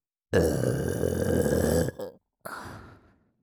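A long, loud, rumbling burp ends in a brief gurgling tail, then a second shorter burp follows after a short pause and fades out. No talking.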